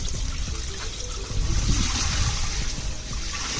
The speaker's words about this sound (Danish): Ja, skal vi lige hælde noget vand over i en af spandene her.